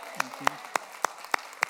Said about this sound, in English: Give God a round of applause.